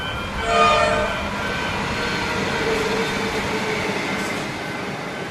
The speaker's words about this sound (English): It's noisy and it's busy outside the cemetery boundaries. And actually, it's noisy inside as well because the Upfield Line train runs along the edge of the place, slicing a section of the cemetery off from another.